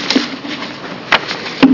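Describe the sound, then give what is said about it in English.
Papers being handled and shuffled during a legislative committee meeting, with a few brief crisp rustling bursts scattered over a quiet background and a soft thump near the end. Nobody speaks. “A few more pieces of paper to shuffle here.”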